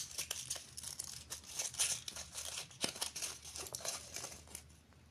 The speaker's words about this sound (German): Und ich hoffe, das Rascheln von den Papieren stört euch nicht so.